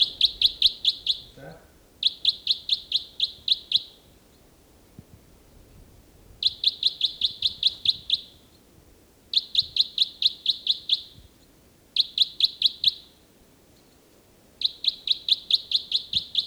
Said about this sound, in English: Start recording again, bird 318. He's in robust song.